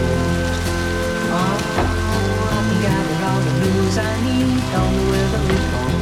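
Heavy rain pours steadily onto hard surfaces, a dense, unbroken wash of loud patter, with sustained musical tones running beneath it throughout.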